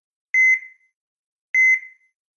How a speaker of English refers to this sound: Beeps and ringing within a hospital often bring a sense of unease. However, the alarms of a new AI weapon scanner at the Health Sciences Center, HSC's emergency departments, have made staff and patients feel safer.